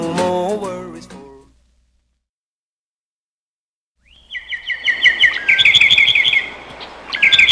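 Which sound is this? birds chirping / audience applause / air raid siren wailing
birds chirping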